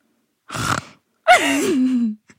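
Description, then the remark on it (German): A voice imitates a loud snore: a short rasping inhale, a brief pause, then a longer voiced, groaning exhale that slides down in pitch. No other talking. “Welches Geräusch machen viele Menschen im Schlaf? …! Laut schnarchen?”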